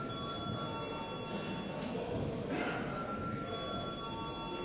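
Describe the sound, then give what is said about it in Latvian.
A continuous electric bell rings steadily for several seconds in the Latvian parliament as deputies are called to vote on a bill in its first reading, a loud, unbroken metallic ringing with sustained high tones and no pauses or speech. “Lūdzu, zvanu.”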